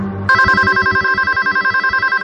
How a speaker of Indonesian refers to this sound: Dan telepon itu tiba-tiba saja terputus. Lalu telepon berbunyi kembali. Kali ini aku agak sedikit kesal.